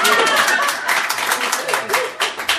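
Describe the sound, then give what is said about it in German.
Steady, fast hand clapping fills the whole stretch, a dense patter of sharp, bright claps that overlap like a small group applauding, with some murmuring voices mixed underneath. The clapping welcomes a woman arriving late to a morning gathering. “Ich klatsche mal für sie.”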